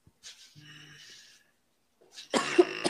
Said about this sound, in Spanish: Hey, le di un pequeño ataque de tos